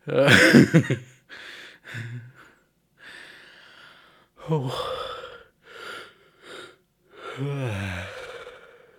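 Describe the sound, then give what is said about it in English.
A long, breathy yawn opens loudly, followed by several shorter airy exhales and a couple of drawn-out groaning vocal sweeps that slide down in pitch, with quiet gaps between them. “Random yawn.”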